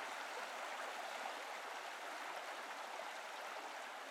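flowing river water

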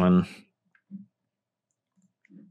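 computer keyboard clicking

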